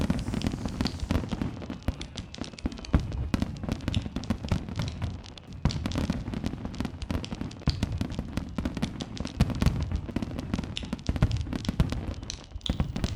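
Fireworks set off around 9 p.m. on a winter night to mark the hour go off in a steady, dense barrage: rapid crackling pops layered over deep rumbling booms, continuing without a break.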